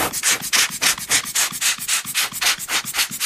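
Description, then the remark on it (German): Quick, steady strokes of a small paintbrush sweeping dust off the surface of a coin before it is digitized. About a dozen hissy, scratchy swishes in an even back-and-forth rhythm, with no talking. “Also als erstes kommt das Abpinseln der Oberfläche.”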